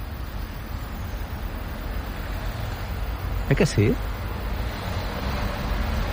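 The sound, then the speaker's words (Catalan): A steady, low diesel truck engine rumble drones throughout, constant, with a brief spoken exchange cutting in near the middle. “Bueno, això és un motor dièsel, no?”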